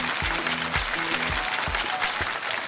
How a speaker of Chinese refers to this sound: 谢谢，再次把掌声送给远在万象